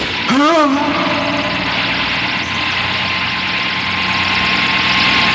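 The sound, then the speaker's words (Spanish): A steady, loud helicopter roar fills the whole clip, a dense engine drone that barely changes, with a short rising and falling pitched cry near the start; the helicopter is flying over a man at the edge of a deep ravine as shots are fired from it. “Justo cuando el helicóptero vuela sobre él y disparan, se lanza al vacío en un salto espectacular.”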